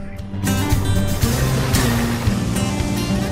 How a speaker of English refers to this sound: A wall of water arches over itself, curling into a cascading wave.